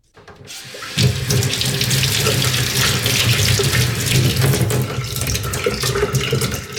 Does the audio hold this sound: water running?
yes